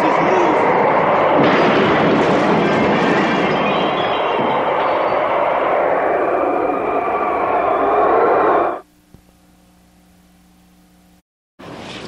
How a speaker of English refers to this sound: What is that? It sounds like a train. Maybe it's another twister.